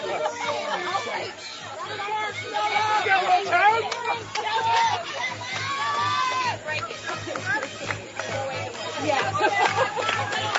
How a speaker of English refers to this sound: And she will be held up right there at second base, and that is getting the crowd really going here over here in Sealy for Washington County as they have a clutch 2-out double.